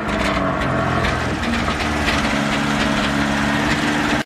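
A car engine idles through a loud exhaust, giving a steady, deep rumbling drone with a raspy edge that holds constant throughout, with no one speaking.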